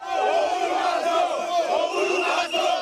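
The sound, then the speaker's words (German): Dozens of angry opposition protesters march through the Mathare slum in Nairobi, Kenya, shouting and chanting against President Uhuru in a dense, continuous roar of overlapping voices, loud throughout with brief surges and dips. “Dutzende aufgebrachte Demonstranten ziehen durch Nairobis Slum Mathare und brüllen ihre Wut heraus.”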